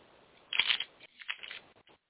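shuffling playing cards

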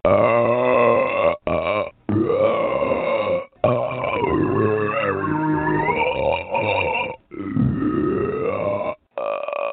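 loud burping

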